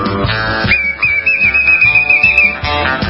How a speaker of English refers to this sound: I think he's got a whistle there in his mouth, too.